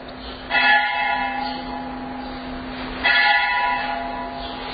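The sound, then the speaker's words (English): A bell rings out twice, about two and a half seconds apart, each loud strike leaving a bright, shimmering tone that hums and slowly fades. No one speaks. “We love bells. So many bells going in this world.”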